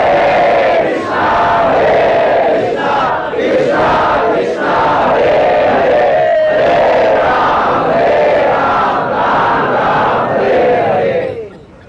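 A large crowd loudly chants the holy name in unison during kirtan, voices rising and falling in a steady repeating rhythm of phrases, sustained at full volume for about twelve seconds before fading at the end.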